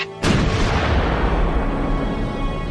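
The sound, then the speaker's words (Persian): A sudden heavy boom of artillery cannon fire erupts after a brief quiet moment, then rolls on as a loud, broad rumble that slowly fades without fully dying away. “کجاست آن گوش شنوایی که بشنود آوای تسبیحی را که از نای بلند توپهای ما برمی آید؟”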